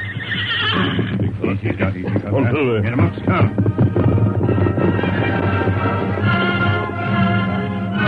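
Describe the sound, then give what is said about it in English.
Horses' hoofbeats clatter along steadily, fairly loud, as the Lone Ranger and Tonto ride their horses, including Silver, up the coast trail, with a horse whinnying loudly near the start, under a constant low background rumble. “The Lone Ranger and Tonto rode up the coast trail for some distance. Then they pulled their horses to a slow pace.”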